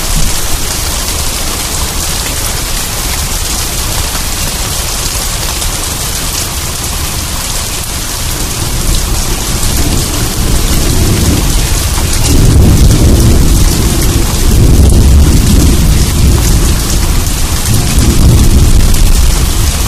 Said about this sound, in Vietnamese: Những trận mưa theo mùa từ sau núi tầm tã suốt đêm.